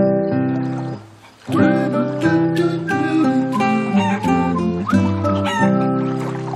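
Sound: chickens clucking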